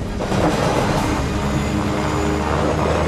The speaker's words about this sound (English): The aircraft flies dangerously close to the mountains as snow lashes the plane.